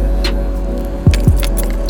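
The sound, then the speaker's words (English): Car keys jangle in a couple of quick metallic bursts, riding over a steady low engine-like hum in the background. “Find the car key.”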